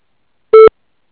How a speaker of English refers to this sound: We're not able to answer the call right now, but if you leave a message, sound at a beep, we'll return your call as soon as possible.